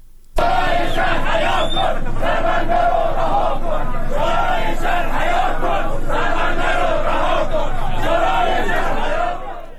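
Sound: protesting crowd chanting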